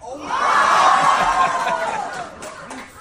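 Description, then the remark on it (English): A crowd of kids screams and cheers loudly together, a sustained high-pitched roar that swells and then gradually fades over a few seconds. “I love the kids screaming. They're loving it, dude.”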